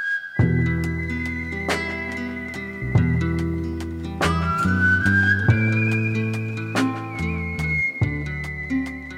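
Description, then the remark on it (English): A person whistles a slow, sustained melody with long held notes that glide between pitches, clear, over a soft chordal instrumental accompaniment with no talking. “The music that I'm creating with whistle, it's definitely not just a happy jingle sound.”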